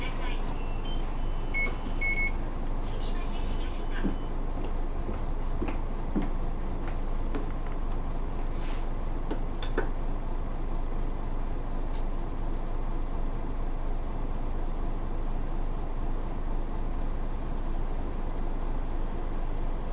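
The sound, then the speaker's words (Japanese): A large route 504 city bus, bound for Tenjin via the urban expressway, idles at a stop with a steady, low rumble, with a few brief electronic beeps near the start and faint background murmur; next stop Fukushige 3-chome. “このバスは504番目の浜ランプ都市高速経由天神方面行きです。”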